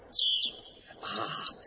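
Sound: small bird singing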